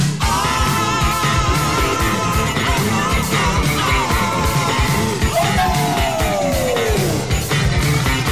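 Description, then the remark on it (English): Wild, strained screaming rides over loud, dense rock music, sustained and raw, ending in a long wail that slides downward in pitch. “Come that crazy screaming sound.”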